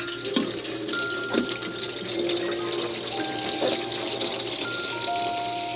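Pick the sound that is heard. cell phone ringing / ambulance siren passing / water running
water running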